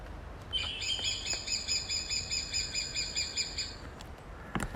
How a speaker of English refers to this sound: It's a woodpecker, but I've got to tell which one it is, have I? Actually, it's a superb lyrebird. No! Pretending to be a woodpecker.